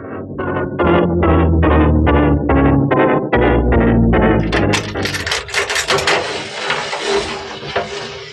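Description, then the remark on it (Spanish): The door of the room where Calimán is held being unlocked and opened: a steady run of about ten metallic clanks from the lock and bolt, followed by a louder, rougher scraping creak as the door swings open. “La puerta del cuarto donde ha sido metido Calimán es abierta para dejar paso al propio Miklos Rogasis, que entra acompañado de su pistolero principal.”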